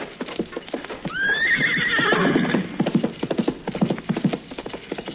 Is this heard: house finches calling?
no